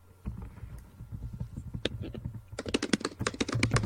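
Rapid typing on a computer keyboard, a steady stream of light clicks that grows denser and sharper toward the end, with no voices.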